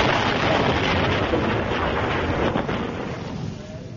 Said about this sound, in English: People with television sets will see that the explosion blew Rommel's small black box up in the air